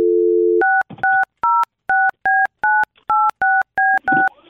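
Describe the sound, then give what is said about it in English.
A steady low dial tone hums briefly, then about ten crisp touch-tone beeps follow in quick, even succession as a phone number is punched in to call someone live on a radio show. No one speaks. “Okay, should I call him up right now?”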